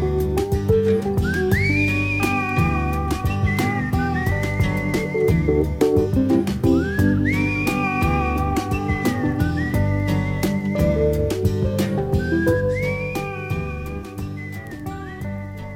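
A person whistles a slow, sliding melody in repeated phrases over a full band playing a song's closing bars, the whistle clear and upfront before the music begins to fade.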